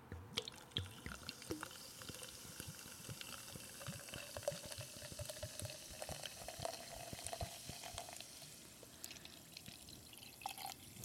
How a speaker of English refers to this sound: But let's see if also we can get this pouring into the glass.